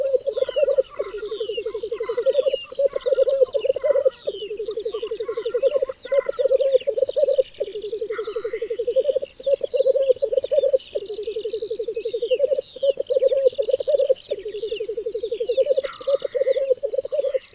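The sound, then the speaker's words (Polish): A low, rolling bubbling call repeats in steady bursts roughly every two seconds, fairly loud, at times turning into a laugh-like sound, while higher birdsong of larks twitters continuously in the background. “Czasem bulgotanie przechodzi w dźwięk przypominający śmiech.”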